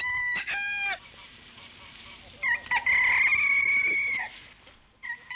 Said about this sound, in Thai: เสียงไก่โห่อยู่ไม่นาน